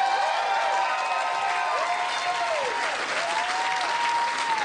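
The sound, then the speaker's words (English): A crowd claps steadily, a dense, continuous wash of applause at even loudness throughout, with faint whoops and cheers rising over the clapping. “A big round of applause”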